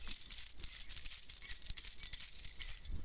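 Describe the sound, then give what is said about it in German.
A steady, busy metallic jingling of many coins clinking and shifting together in an opened treasure chest, bright, continuing without pause for a few seconds with no voices. “Wow, so viele Münzen habe ich noch nie gesehen.”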